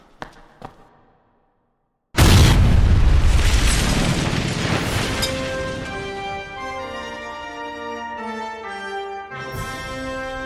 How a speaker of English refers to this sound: We'll blow the model itself with a special Titan blend of my own design. And when it's all done, we'll have a very convincing gas explosion. Silver sparks will come through and you'll get a faint gas-type aura.